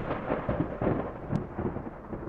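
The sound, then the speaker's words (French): A heavy, rolling thunder rumble fills the whole moment, loud, with several surging cracks swelling through a continuous low roar and no voices. “Juste à ce moment-là, une pomme tomba de l'arbre et le bruit lui sembla un coup de tonnerre.”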